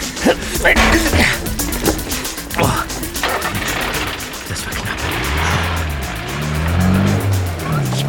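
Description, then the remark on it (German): A small truck's engine rumbles and revs up, its pitch rising and falling as it drives off, with scraping, clattering noises early on and a faint voice underneath. “Er geht zu dem kleinen Laster.”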